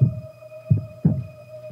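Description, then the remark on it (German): A muffled, low heartbeat, presented as a mother's heartbeat heard from inside her womb, thumps in a steady lub-dub rhythm, with several beats over a constant soft hum and no talking. “Ganz klein und du hörst ihren Herzschlag.”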